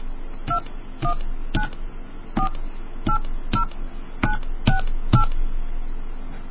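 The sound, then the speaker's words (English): Nine short touch-tone keypad beeps sound in an uneven sequence as a PIN for a prepaid calling card is punched in on a phone, each a crisp dual-tone blip over a low background hum. “Please enter your PIN now.”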